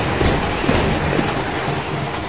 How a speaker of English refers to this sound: This is our stop, I think. The train's still traveling pretty fast.